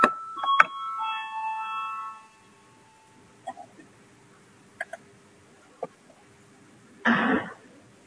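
A voting call bell in the chamber of the Latvian parliament, the Saeima, rings once to call a vote, loud, its bright tone fading over about two seconds, followed by scattered faint clicks and a short burst of rustling near the end.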